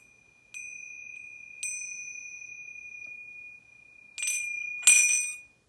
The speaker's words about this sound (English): You can all take a couple of minutes to write about this, and when you hear the bell, just come back.